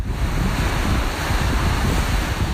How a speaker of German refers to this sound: Kräftig und heiß weht der Wind an Mexikos Karibikküste. Ganz sanft plätschert die karibische Badewanne, aber statt türkisblau ist das Meer hier kaffeebraun.